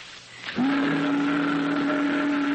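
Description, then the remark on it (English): A boat whistle sounds a single deep, steady blast that starts abruptly after a moment of low background noise and holds loud and unbroken to the end, with no talking. “That's a boat whistle.”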